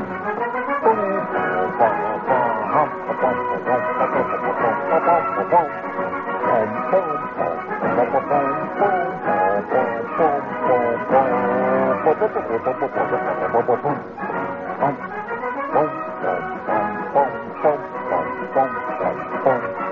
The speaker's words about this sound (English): And these were not plastic sousaphone, friends. These were magnificent, gold-plated, deluxe con, double B-flat sousaphones, catching the light, moving against that sharp, spanking wind, and cracking into Semper Fidelis. Listen to this.